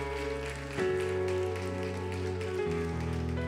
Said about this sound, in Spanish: Dale un aplauso bien fuerte a Jesús.